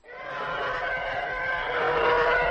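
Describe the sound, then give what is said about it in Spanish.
An elephant's trumpet blended with a car skidding through a puddle forms a continuous screaming roar, loud, holding steady and swelling slightly toward the end with no voices; this is the flight sound of the Imperial TIE Fighter in Star Wars. “Un elefante gritando más un coche derrapando en un charco es esto.”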